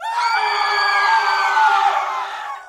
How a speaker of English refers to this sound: Did that get your attention? I thought it might. Screams are one of the most fundamental of human noises, something we're all programmed to do right from the second we're born, no matter what culture we're part of.